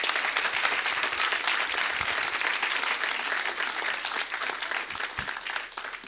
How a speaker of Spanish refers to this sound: Den un aplauso al Señor Jesucristo, bien fuerte.